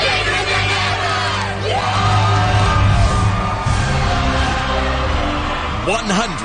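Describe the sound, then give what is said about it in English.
A loud crowd chants and whoops together, many voices blending into a sustained roar with rising 'woo' cries standing out near the start and again at the end. “I don't know how this is the rule or how this got started, but you have to always end every crowd chant with, woo!”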